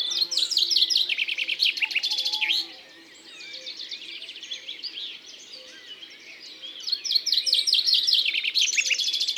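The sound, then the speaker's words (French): Common chaffinch song: two loud, bright bursts of rapid descending trills, with softer background birdsong in the pause between them. No one speaks. “Et ça, c'est un pinson, le pinson des arbres.”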